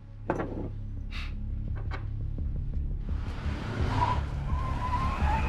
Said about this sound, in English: A large car speeds around the corner and pulls up behind Tony, who gets out along with his accomplice.